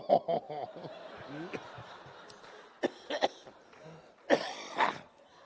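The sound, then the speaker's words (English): A voice imitates a frog with a string of croaky, throaty bursts and clicks, irregular in rhythm, some short and sharp, a few longer and rougher, with quiet gaps between. “I said to him, have you ever heard my imitation of a frog?”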